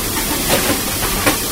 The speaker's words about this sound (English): The fireman's putting some coal on, as you can hear in the background.